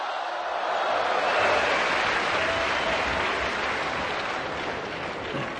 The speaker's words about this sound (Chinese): 哎，掌声欢迎我们。 是是是， 我认为这个掌声啊啊，都是给您鼓的呀。啊， 给咱们两个人鼓掌。